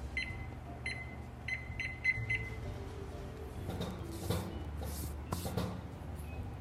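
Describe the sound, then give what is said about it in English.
A quick series of short, high electronic beeps from a kitchen timer being set for 25 minutes, uneven in spacing, followed by soft clattering and rustling kitchen noise against a low background hum. “Okay, set a timer for 25 minutes.”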